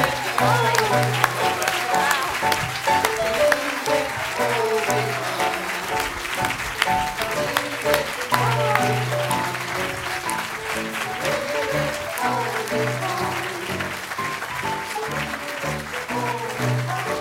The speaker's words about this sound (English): Please give him a big round of applause.